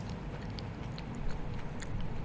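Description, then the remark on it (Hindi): Wet chewing sounds of a woman chewing food, with soft crunchy clicks repeating irregularly over a steady low rumble, no one talking. “जो मैं खाना चबा रही हूँ ना, the food I am chewing, I am gonna spit on floor.”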